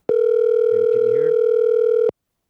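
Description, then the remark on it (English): A steady telephone ringback tone buzzes continuously for about two seconds as a call is placed to a mother, loud, with a faint murmur of voices briefly underneath. “Can you hear it ringing? Yeah, I can hear it.”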